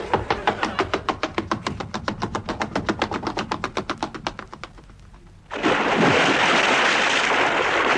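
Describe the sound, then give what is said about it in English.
A steady, rapid chugging like a ship's engine thuds along for several seconds, then gives way to a loud, sustained rush of sea water washing in. “I think I'll run away to sea.”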